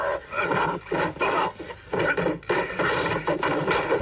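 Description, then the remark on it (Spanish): A rapid, loud series of cartoonish punch sound effects from a film fight associated with actor Bud Spencer, known for his vertical punch: heavy thwacks landing about twice a second amid grunts and a dense, rumbling din. “Duele solo de escucharlo, especializado sobre todo en el puñetazo vertical.”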